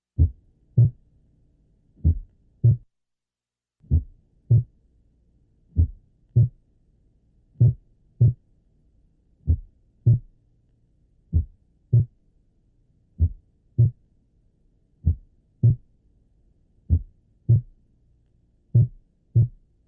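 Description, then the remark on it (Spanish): A slow, steady heartbeat of a patient with complete atrioventricular block, heard through a stethoscope, each beat a paired low thump with the first heart sound varying in loudness, about a dozen beats with no talking. “Observe la baja frecuencia de los latidos y la intensidad variable del primer ruido cardíaco en un paciente con bloqueo auriculoventricular completo.”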